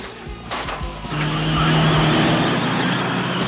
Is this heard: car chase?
yes